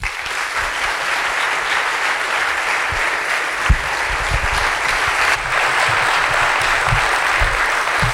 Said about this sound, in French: Merci d'applaudir